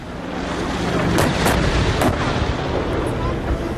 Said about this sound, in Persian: این در حالی است که شهروندان آذری ساکن در مناطق مرزی ایران از آغاز درگیری‌ها شاهد به پرواز در آمدن جنگنده‌ها و شنیده شدن صدای شلیک توپخانه‌های سنگین در دو سوی این درگیری‌ها بودند.